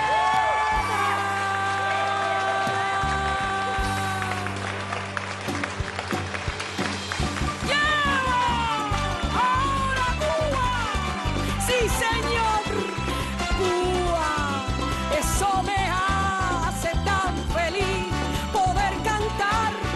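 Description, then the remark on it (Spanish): A large audience cheers and claps loudly and continuously for a singer, with whoops and shouts rising over a dense, steady roar of applause that carries on throughout. “para que puedan aplaudir. ¿A quién? A ….”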